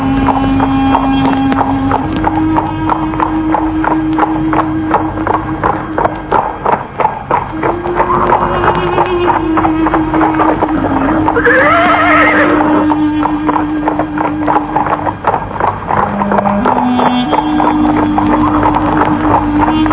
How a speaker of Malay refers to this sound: Raden Gugur naik ke atas kuda, sementara Rakeh Hambulu menuntun kuda perlahan-lahan.